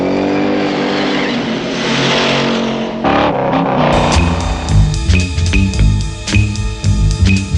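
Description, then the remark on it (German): Loud roaring engines rev and surge in a frantic car chase over hills in the film Bullitt, with a sharp squeal of tires and harsh clatter of metal breaking in partway through, no voices. “Es ist eine atemberaubende Choreografie aus quietschenden Reifen, schepperndem Metall und wütendem Motorgeheul.”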